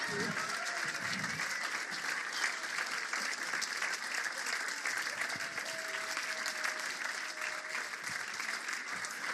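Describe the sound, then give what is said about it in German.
Sustained applause from a large audience for performers who presented the story of Simeon, a dense steady roar of clapping that fills the whole stretch at an even, strong level, with faint crowd voices mixed underneath. “Ich würde sagen, das hat nochmal einen großen Applaus verdient.”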